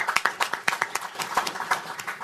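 A round of applause from an audience: many hands clapping in a quick, uneven patter of sharp bright claps at a moderate level, with no voices over it, lasting a couple of seconds.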